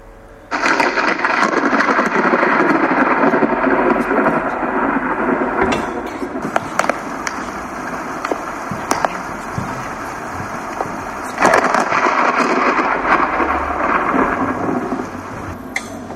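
A thunderstorm roars steadily with dense, hissing rain, while rumbling thunder and sharp crackles break through near the middle and again toward the end. Loud, with no voices.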